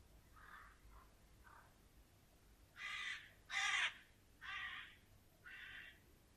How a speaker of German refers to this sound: Und draußen vor dem Fenster ein Krähenschwarm.